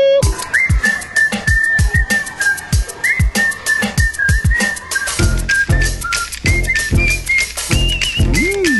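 A clear human whistle carries the bright, bouncy melody of a world hit song over a punchy drum and bass groove, with sharp percussive hits throughout and the beat thickening in the second half.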